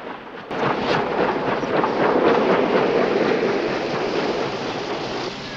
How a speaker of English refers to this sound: A car slows to a halt on a dark, wet street.